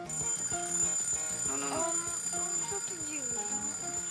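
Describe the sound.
An alarm clock, held up to a sleeping young woman's ear, rings continuously, a steady bright ringing that carries on throughout while a voice speaks over it.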